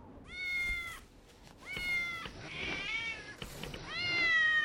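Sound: agitated cat meowing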